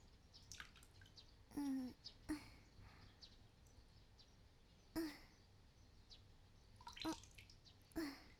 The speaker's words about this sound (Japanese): 目を閉じたまま、足にかけられる水音を聞いていると落ち着いてきますよ。